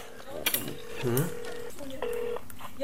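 A telephone is dialed to order cosmetics seen on television: a couple of sharp handset clicks, then steady electronic keypad tones, a long held beep and a shorter higher one, with faint background murmur.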